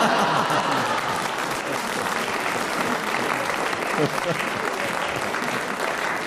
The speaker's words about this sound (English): but your efforts are well appreciated, as the applause from the audience indicates.